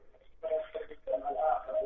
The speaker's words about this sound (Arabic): اقصر التلفزيون على الاخر الله يرضى عليك واسمعني من الهاتف.